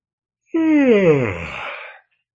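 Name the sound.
a person yawning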